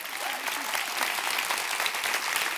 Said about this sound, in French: Bravo, on peut l'applaudir. Un maximum de bruit.